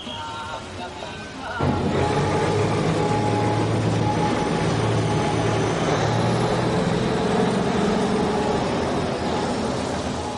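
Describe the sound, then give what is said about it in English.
A train rumbles loudly and steadily along railway tracks in Bangkok, its heavy mechanical roar kicking in abruptly after a quieter opening and holding sustained to the end. “For years, one of the landmarks of Bangkok, as you drove in from the airport, was a community of people living beside these railway tracks.”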